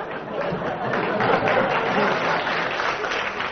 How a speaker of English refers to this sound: In its loosest sense, yeah. I should think a round of applause for that, yeah.